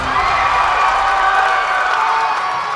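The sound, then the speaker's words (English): A crowd cheers wildly in a sustained, loud roar of overlapping shouts and whoops, with a bit of applause mixed in, holding steady throughout. “The crowd went wild.”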